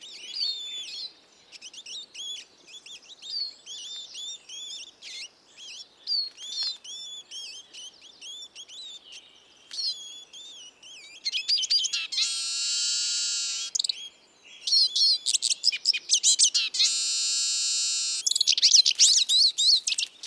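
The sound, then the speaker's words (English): Two posturing male siskins in an antagonistic encounter give an unusual harsh, strident buzzy call, then break into loud, rapid twittering song that overlaps and alternates, with high wheezy notes and busy chirps, including mimicry of the common crossbill's toop alarm call; no voices present. “Here, two posturing males utter an unusual strident call before embarking on a typical bout of loud song interaction.”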